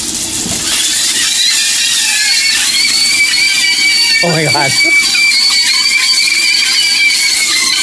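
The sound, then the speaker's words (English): Sausages fry with a steady, loud hissing sizzle, laced with thin, wavering high-pitched squeals that sound eerily like people screaming; a voice briefly exclaims partway through. “So this is a flying sausage sounding like screaming people.”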